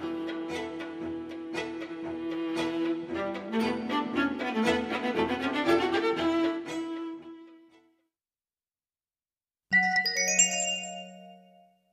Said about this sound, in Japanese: カセットテープ版には主要な項目の頭にトーンインデックスが入っています。どうぞご利用ください。